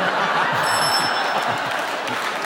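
A brief, high-pitched electronic buzzer tone rings for under a second, partly masked by a steady wash of crowd applause that runs through the whole clip.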